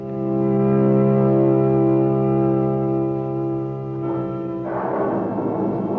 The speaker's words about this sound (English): The storm swoops down. Rain begins to fall.